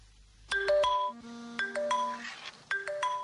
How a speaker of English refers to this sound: Social media notification on Sally's phone.